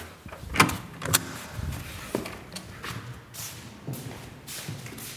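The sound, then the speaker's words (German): A door is opened and people step out of a self-regulating smart house after pressing a button that activates its security functions, with a couple of sharp clicks and a mechanical whir followed by soft shuffling footsteps, with no talking. “Okay, also jetzt drücken wir zuerst drücken und nachher gehen wir zur Tür raus.”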